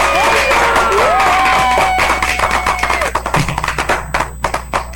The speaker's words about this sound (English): Let me give you a clap, dog.